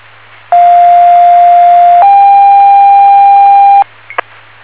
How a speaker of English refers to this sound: Test tones for station 42. Station 42, test tones received.